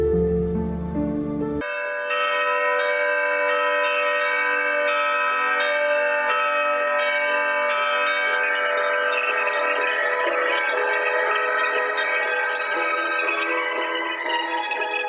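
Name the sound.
bells ringing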